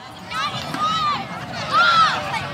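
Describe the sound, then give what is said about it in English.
On a Saturday afternoon in a small meadow at the northern edge of Golden Gate Park, San Francisco, under a gray sky, children take turns launching a little white stomp rocket, their high voices calling and squealing in a few rising-and-falling cries over a steady wash of open-air background noise. “It's a Saturday afternoon in Golden Gate Park, and a handful of kids are taking turns sending a little white stomp rocket into the gray San Francisco sky.”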